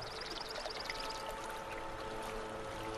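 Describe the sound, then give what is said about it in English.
A beaver swims in a pond, making steady splashing and churning of the water, continuous for the whole stretch, with a faint series of high chirps early on and no one talking. “There he is right there. Check it out. That's him swimming right over there.”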